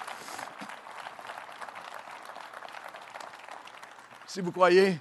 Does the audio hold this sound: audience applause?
yes